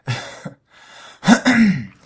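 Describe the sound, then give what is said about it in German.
A person clears their throat: a soft breathy intake, then two rough, gravelly bursts in quick succession, with no speech. “warum keine Räuspertaste?”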